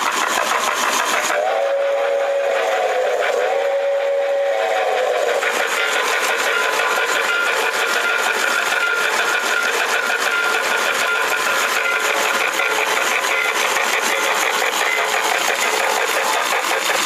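A 4-8-4 model steam locomotive runs in a showcase, suspended over the track with its top taken off: a short electronic whistle toots a few times, then a steady, rapid chuffing hiss continues over a buzzing motor whir as it puffs smoke.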